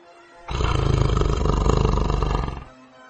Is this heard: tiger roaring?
yes